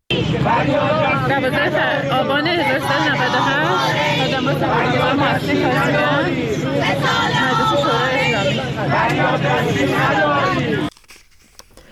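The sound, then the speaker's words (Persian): A large protest crowd of depositors of the Caspian financial institution chants slogans on Sunday in front of Iran's Islamic Consultative Assembly (parliament), demanding that officials and the judiciary address their demands and pay their claims; a dense, loud wall of overlapping voices that holds steady for about eleven seconds before cutting off abruptly into near silence. “معترضان با سر دادن شعارهایی از مقامهای جمهوری اسلامی و قوه قضاییه خواستار رسیدگی به خواستهای خود و پرداخت مطالباتشان شدند.”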